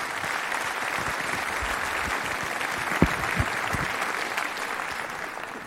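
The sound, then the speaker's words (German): Sustained audience applause welcoming a speaker to a talk on batteries and energy storage, a dense steady wash of many hands clapping at an even level throughout, with a few sharper individual claps standing out midway. “Vielen Dank, einen großen Applaus.”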